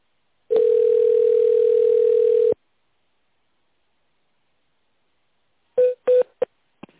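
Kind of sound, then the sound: signal or alarm, telephone touch-tone dialing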